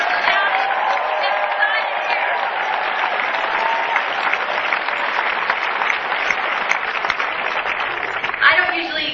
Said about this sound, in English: This is a great crowd, and I think the Santorum campaign after Tuesday is going to say Oklahoma is more than okay when we win big with over 50%. So let's hear some cheering.